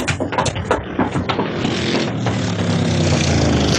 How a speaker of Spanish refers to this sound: ¿Qué es eso? ¿El motor de un auto? ¿Un automóvil se acerca? ¡Corramos a ver!